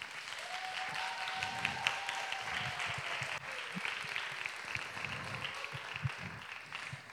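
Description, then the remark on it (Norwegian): A church audience applauds steadily throughout for two singers, dense overlapping claps with no voices rising above the sustained clapping. “Du, disse to folkene her, jeg gir en klapp.”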